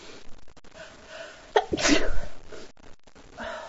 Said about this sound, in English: I was at my friend's house. Now I can't stop sneezing because of her stupid cat.